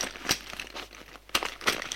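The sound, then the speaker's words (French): A woman rummages through her bag looking for a scrap of paper, producing irregular crinkling and rustling with a few sharper crackles of paper or plastic, no voices present. “Elle cherche dans son sac un bout de papier.”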